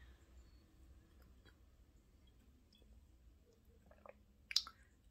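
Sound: sipping and swallowing water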